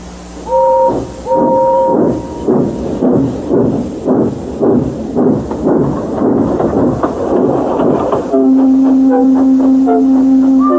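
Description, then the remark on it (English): The steam engine Gordon clanks past, hissing rudely: a broad, steady hiss and a run of rhythmic chuffing beats, brief tonal squeals early on and a sustained droning tone near the end. “Gordon came clanking past, hissing rudely.”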